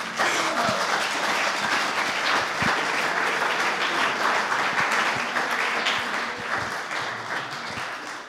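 A crowd at a gathering in Náchod applauds steadily, welcoming a local representative, a dense wash of many hands clapping at once, sustained and fairly loud for several seconds before tapering slightly at the end.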